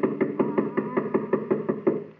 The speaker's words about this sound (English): I'll do the knocking. Doesn't seem to hear us. Oh, he'll hear me.